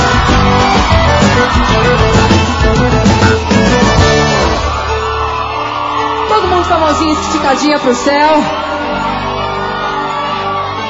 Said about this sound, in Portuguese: Eu quero ouvir o grito das mulheres que gostam de brigadeiro de panela.